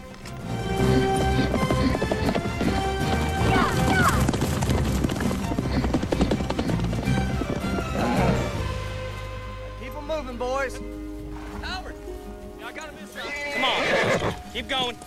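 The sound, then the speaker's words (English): A large herd of horses being driven across a field gallops, a dense, loud rumble of pounding hooves, with repeated high whinnies and neighs rising over it toward the middle and end. “In a field, Rob, Gus, Howard and Jack drive a large herd of horses.”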